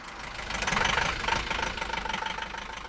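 A bus engine idles with a steady, throbbing low rumble and a faint mid-range tone, holding fairly constant for a few seconds as a rabbi parks the bus in front of a Moroccan restaurant in Sainte-Geneviève-des-Bois in the evening. No one is talking.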